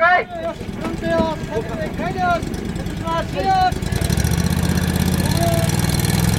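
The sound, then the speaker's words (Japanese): A heavy amphibious vehicle's engine rumbles steadily, growing louder and rougher about four seconds in as it starts to move over rough ground carrying a person being rescued, while people talk over it in the first half. “今水陸両用車動き出しました。”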